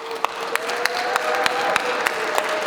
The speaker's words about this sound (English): But can we, with just a round of applause and some joy celebration, just thank these churches?